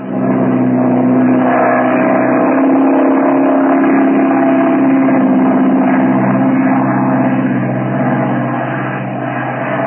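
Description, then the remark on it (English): A loud, steady engine drone with a low harmonic hum as the airplane of the Merrill-Lamby ocean flight starts up and revs before takeoff, filling the whole recording with no voices over it. “Let's get in the plane.”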